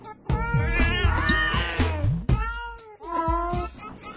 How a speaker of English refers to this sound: Those cats are not happy.